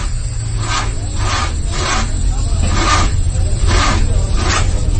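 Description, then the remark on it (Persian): A car engine tries and fails to start because its battery drained while the car sat in a garage for 5-6 weeks. The starter cranks in a steady series of rasping, wheezing pulses over a low rumble, never catching. “آخ نباید ماشین رو خاموش میکردم.”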